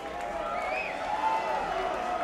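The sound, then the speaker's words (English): An audience cheers and claps after a band plays a song, in a steady, dense wash of crowd noise, with a few higher shouts or whistles rising above it throughout the short stretch. “All right, so you don't have to cheer that.”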